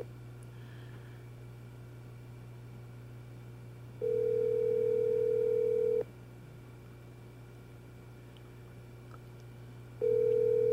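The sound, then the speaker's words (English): An outgoing phone call's ringback tone sounds through a handset, two long steady beeps spaced several seconds apart over a low hum, the call going unanswered with no one speaking. “That's unusual that she's not answering.”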